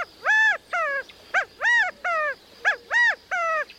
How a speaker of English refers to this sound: With such a large extended family, it's not surprising when a male California quail hops up onto a stump to gather the covey together with this rallying call.